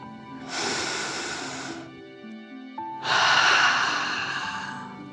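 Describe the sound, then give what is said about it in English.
Two long, airy deep breaths: a steady inhale through the nose followed by a forceful, rushing exhale out of the mouth, with soft background tones underneath and no talking. “Breathing in through your nose and breathing fire out of your mouth.”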